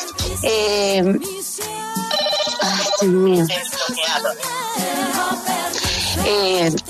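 The speaker's own mobile phone ringtone plays during an interview, a loud, melodic tune with sustained, wavering tones, ringing continuously from start to finish.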